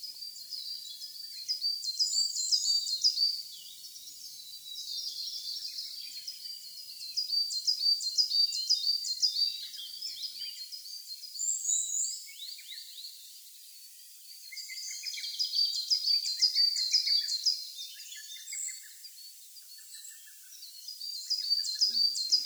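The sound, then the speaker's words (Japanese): A coal tit in a forest before sunrise sings repeated high, thin phrases over and over while moving through its territory, singing for nearly 30 minutes, mixed with other small birds chirping in a steady dawn chorus, with no voices or low sounds beneath. “このヒガラは30分近く縄張りの中を移動しながら鳴き続けていました。”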